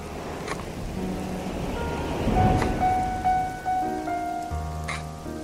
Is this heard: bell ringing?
no